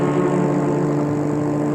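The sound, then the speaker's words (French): A car engine, as a chauffeur takes the car out, runs with a steady, low harmonic drone, fairly loud, holding an even level throughout with no voices over it. “Et le chauffeur prend la voiture”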